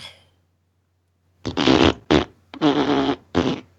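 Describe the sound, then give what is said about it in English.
A loud, sputtering fart sound effect played by an Alexa smart speaker in four quick bursts with short gaps, brassy and buzzy, after a brief faint noise and a second of near silence. “Alexa, ask for a fart.”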